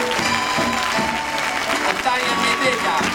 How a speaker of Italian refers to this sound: E poi un applauso particolare a guest star, ma vuol dire una persona speciale